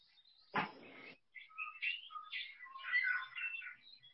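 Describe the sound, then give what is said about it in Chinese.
Birds chirp busily in a steady stream of high, quick calls that overlap and flutter on, following a brief burst of rough noise near the start. No one speaks. “可以的，有鸟叫的声音。”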